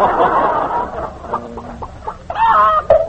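A chicken clucks close by, a run of agitated cackling followed by a few short, spaced clucks and then a louder, drawn-out squawking call near the end.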